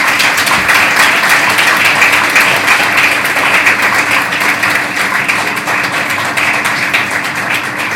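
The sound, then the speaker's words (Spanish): Loud, sustained applause from a Partido Popular audience honouring the former local party president, a dense wash of many hands clapping steadily for the full length with no pauses and no voices on top. “hacia el que ha sido presidente local y que ha desarrollado un trabajo en circunstancias difíciles, que es un excelente profesional, una persona respetada por todos, que es Toni, y quiero pedir para él un fuerte aplauso.”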